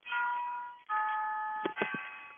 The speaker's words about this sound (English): We've learned to incorporate your clock. Is that like a real one or an electronic one? No, it's a real one. It's an old one. Old one? Yeah, it's an old one, and I have to pull the things every 8 days.